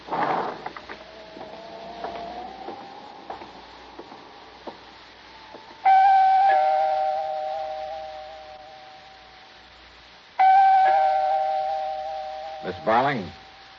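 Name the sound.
apartment doorbell ringing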